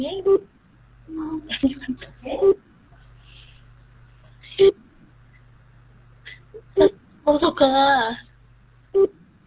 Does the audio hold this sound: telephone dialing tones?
yes